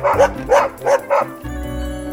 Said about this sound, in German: Ich sag es dir, es ist der Hund.